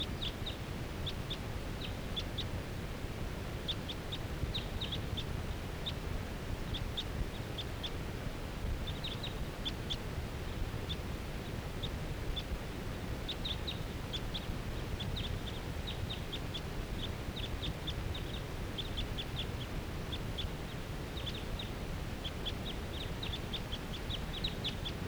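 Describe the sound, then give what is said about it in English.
A wild bird calls by itself from a tall fir tree, repeatedly in short, high-pitched chirping bursts that come in irregular clusters throughout, over a steady low rumbling background hiss with no voices. “Sorry, this is one of the wild birds calling from that tall fir tree by itself.”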